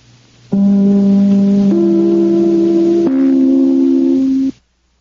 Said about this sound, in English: Just as soon as I ring my chime, this is NBC, the National Broadcasting Company.